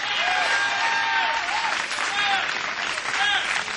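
Steady, dense applause from a live concert audience, broadcast by WIBA, as the drummer is thanked, fills the whole stretch, with scattered whistles and cheers rising above the clapping.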